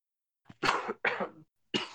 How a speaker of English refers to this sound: I have a really bad cough, and I don't know why. It's really annoying, though.